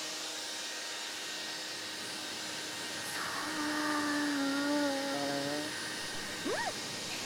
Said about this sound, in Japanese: それでは髪乾かしていきますね。ドライヤー当てさせてもらいます。